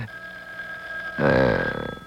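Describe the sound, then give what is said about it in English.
A telephone bell rings: a thin, steady high tone gives way to a loud, rattling burst of ringing that trembles and slowly fades toward the end. “There's the stubborn cat again. You see how the ring sounds?”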